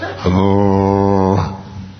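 A single low tuba note sounds loud and steady for just over a second, its buzzy tone rich in overtones, then cuts off, leaving faint background noise.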